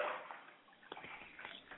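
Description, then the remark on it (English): Bathwater sloshes quietly in a bathtub with someone in the bath, a soft continuous swishing broken by a few brief, sharper splashes near the end; no one speaks. “I mean, you know, right now my computer is dead and it's in the bathroom with me. I'm in the bathtub.”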